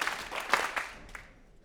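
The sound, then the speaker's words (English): A scattered smattering of audience claps at a Boston Jewish Music Festival event, people clapping twice to show it is their second year attending. A few sharp, uneven bursts quickly thin out and fade to quiet after about a second, with no voices over them. “And if this is the second year that you've come to an event, please clap twice.”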